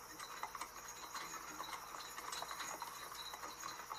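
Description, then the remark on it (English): Faint, steady clip-clop of horse hooves at a walking pace, with soft jingling and creaking of harness straps over a constant hiss-like background. No one speaks. “Okay, you hear the horse things and the horse hoof prints and the straps that are going to keep the horses.”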